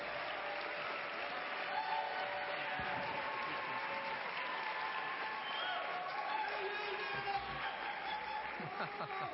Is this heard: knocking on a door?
no